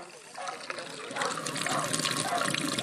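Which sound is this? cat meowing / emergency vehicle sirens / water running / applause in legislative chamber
water running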